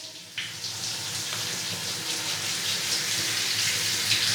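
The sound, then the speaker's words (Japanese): A shower spray of warm water starts after a brief pause and runs steadily, a continuous hissing splash rinsing through hair to wet the hair and scalp before washing, with no voices. “ではこのまま洗いやすくなるまでお湯をかけていきます。”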